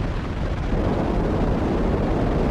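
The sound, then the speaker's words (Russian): A Sputnik launch vehicle, a modification of the "Semyorka" rocket, lifts off at night over the Kazakh steppe on 4 October 1957, roaring with a continuous, dense, deep rumble, steady and loud throughout with crackling texture and no pauses or speech. “Ракета-носитель «Спутник», модификация «Семерки», с гулом ушла вверх.”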